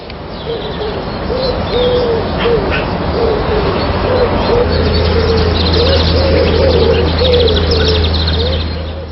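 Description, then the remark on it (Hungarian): Birdsong from a radio bird-song programme fills the scene: a steady series of soft, low cooing notes repeating throughout, with fainter high chirps and trills scattered above and a low background hum, no voices. “A leghűségesebb hallgatók között elítéltek is vannak, akik a rádiónak küldött leveleiben azt írják, hogy cellájukban a büntetés is elviselhetőbb, ha madárdalra ébrednek.”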